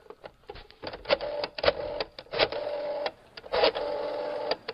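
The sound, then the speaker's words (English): A rotary phone dial turning and spinning back, giving a mechanical whir broken by a quick series of sharp clicks. The pattern repeats several times with short pauses, with no voices. “It's a rotary phone.”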